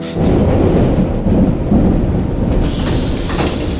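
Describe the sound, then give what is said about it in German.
A subway train roars through a tunnel, a loud, steady low rumble with clattering rattle, and the rushing hiss suddenly brightens and grows harsher toward the end. No voices. “Und schreckst mitten im Klackern und Rauschen des U-Bahn-Tunnels auf.”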